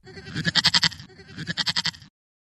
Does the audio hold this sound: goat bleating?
yes